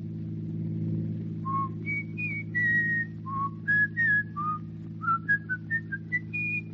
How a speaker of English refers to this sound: Oh, you whistle much better since we've come to the country. Much, much better. Well, there's a reason to whistle when you live in the country. It's competition. He just doesn't want to be outdone by that old crow who lives in the barn.